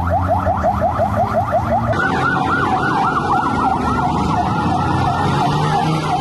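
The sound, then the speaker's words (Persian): An ambulance siren wails loudly over constant traffic rumble, first in a fast repeating yelp, then switching after two seconds to a slower rising-and-falling wail, as ambulances arrive after a suicide bombing at a Shia mosque in central Kandahar to take the wounded to hospitals. No one speaks. “لحظات پس از انفجار در داخل مسجد امام بارگاه، امبولانس ها به محل رویداد آمدند و زخمی ها را به شفاخانه ها منتقل کردند.”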